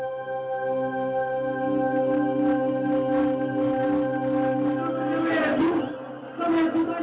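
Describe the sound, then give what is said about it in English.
A vast crowd in Cape Town, waiting all day for Mandela's first speech, cheers and chants in a loud, continuous roar of many voices that swells toward the end, briefly dips, then surges back. “In Cape Town, a vast crowd waited all day for Mandela's first speech.”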